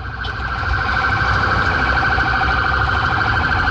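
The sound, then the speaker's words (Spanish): Loud ambulance sirens wail continuously as emergency vehicles pass along Fresia Street toward a fire, cars yielding to them, their piercing tones holding steady over a dense rumble of traffic noise, with no talking. “Vienen ambulancias, como se pueden dar cuenta, los autos cometen, por supuesto, la actitud de cederle el paso y están pasando todos los vehículos de emergencia en esa dirección.”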